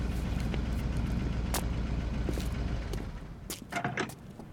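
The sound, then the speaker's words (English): A blue truck's engine rumbles low and steady from some distance, then eases off, leaving a few faint clanks and rattles near the end. No one speaks. “I just had about it figured out as the blue truck sputtered in the distance.”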